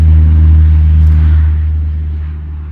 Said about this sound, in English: Out on Seeley Lake itself, a pair of propeller-driven Super Scooper planes were doing laps, skimming across the lake's surface, filling up with water, and then looping around just a few miles over Highway 93 to drop it on Rice Ridge.